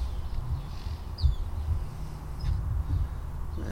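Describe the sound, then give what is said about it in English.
A few faint, brief bird chirps sound in a back patio garden on a sunny Tuesday afternoon over a steady low outdoor rumble, with no one talking. “Here we are, also again in my back patio in the garden. Sun's out, it's pretty nice. Birds chirping.”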